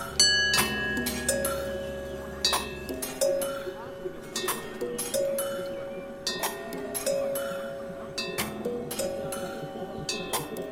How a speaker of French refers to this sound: Des cloches, des gongs, des cymbales, des bols tibétains.